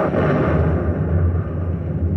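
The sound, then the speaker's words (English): A large wartime explosion at night, directly ahead, rolls out as a deep, heavy rumble, loud, sustained for a couple of seconds with dense low-end roar and no voices. “You must have heard that explosion.”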